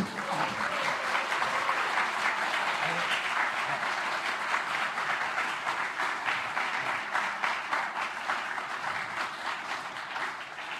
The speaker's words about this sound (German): Der Applaus ist wohlverdient.